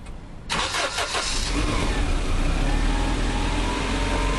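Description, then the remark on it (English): A two-seater car's engine cranks to life after a short, quiet moment, then settles into a steady, fairly loud rumble as the car pulls away. No voices. “Then they got into the car. After that, off they went.”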